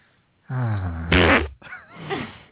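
A loud, drawn-out fart, starting as a low buzzing rumble and ending in a sputtering hiss, followed by a short wavering vocal noise close to the microphone.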